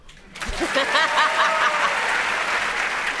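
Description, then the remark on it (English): A studio audience breaks into steady applause, dense and sustained clapping with a few scattered whoops and laughs rising above it, filling the room for several seconds. “Please clap.”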